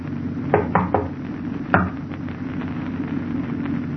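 Three quick knocks on a locked door followed by a single louder rap a moment later, heard over a low, steady background hum; no one answers.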